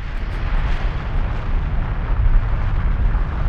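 A volcano rumbles and erupts in a continuous, heavy roar, deep booming low end with a hissing, crackling wash above, loud and steady throughout with no voices.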